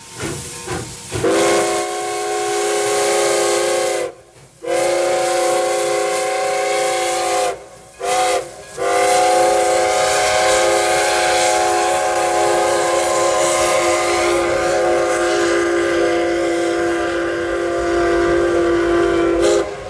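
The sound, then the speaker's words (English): The whistle of the Moose Gooser, a little antique steam railroad train in Anchorage, Alaska, blows in long, sustained harmonic blasts with a few brief breaks, over the steady hiss and rumble of the running train, loud, with no one speaking. “That is the Moose Gooser, a little antique steam railroad train in Anchorage.”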